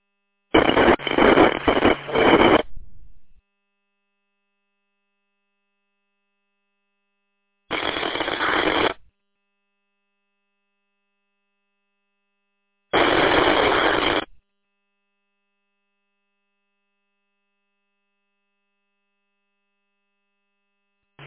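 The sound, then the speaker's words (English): Three bursts of harsh squelch screech as a radio repeater's squelch is broken, band-limited noise cutting in and out abruptly: a longer, sputtering burst first, then two shorter steady ones several seconds apart, with silence between and no voices. “That's breaking the squelch on the repeater, but that's about it. We're just getting a screech noise, so.”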